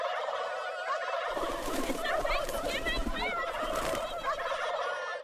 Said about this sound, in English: Just then, all the turkeys cheered.